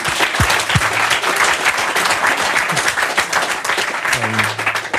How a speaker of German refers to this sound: Bitte einmal Applaus für die Partner, die uns das ermöglicht haben.